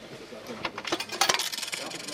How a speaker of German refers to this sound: So können Sie zum Beispiel ein Billett der Zone 10 anwählen und schon können Sie zahlen, nur noch Münze einwerfen und schon kommt das Billett heraus.